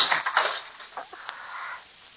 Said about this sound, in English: Now I'm going to show you a trick. It's a barroom trick. Watch what happens when I hit the edge of the desk with this bottle.